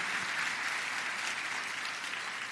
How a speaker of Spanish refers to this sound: Vamos a dar un aplauso al Señor porque tenemos un premio.